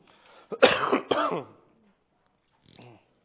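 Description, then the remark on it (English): A harsh bout of coughing and throat clearing in two quick rasping bursts, followed after a short pause by a faint, brief throat sound. “Sorry about my cough.”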